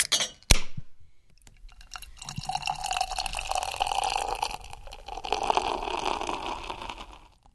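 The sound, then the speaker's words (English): A sharp glassy tap, then several seconds of wet sipping and slurping as beer is drunk from a glass at 10 a.m. during a beer tasting, with no talking. “Cheers. I look at my watch. It's 10 a.m. on the dot. And I take a sip.”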